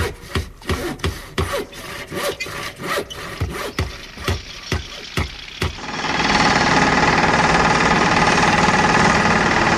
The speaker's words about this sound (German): Da macht man aber den außerirdischen Angst mit einem so einem Traktor.